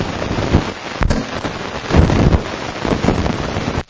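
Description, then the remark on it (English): Deep rolling thunder rumbles for several seconds, with one sharp crack early on and swells of low rumble that fade out abruptly at the end. No one speaks. “that's thunder or thunder?”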